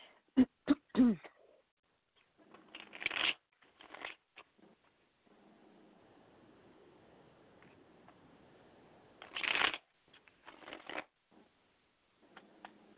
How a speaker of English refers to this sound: Now, let me see what the cards want to say. Give me just a moment here to shuffle.